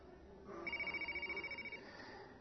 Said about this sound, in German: Da hat irgendeiner ein Handy. Wo ist es? Bei Ihnen?